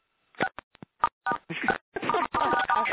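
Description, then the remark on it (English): A quick run of short telephone keypad tones, several brief beeps in a row as star 6 is pressed on a phone to mute it, followed by a longer, busier stretch of overlapping tones and muffled sound that seems to include talk, all fairly clear. “Can we mute our phones individually by pressing some number or something?”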